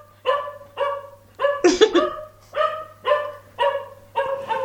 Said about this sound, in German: Wir hatten den Film Wuff. Ich glaub, das hört sich so echt an. Ich glaube, das lasse ich auf dem Soundboard. Ich habe auch noch einen anderen Hund.